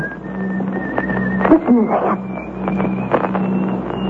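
A thin, high whistled tune, the piece "St. Mary's", whistled as a signal before rowing out in a small boat to a ship, holding long notes that step up in pitch, over a steady low hum and scattered bursts of muffled noise and voices.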